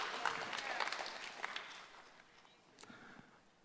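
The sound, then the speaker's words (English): An audience applauds together, a steady wash of many hands clapping that holds for a couple of seconds, then thins and tapers off toward the end. “Yeah, you can clap for that.”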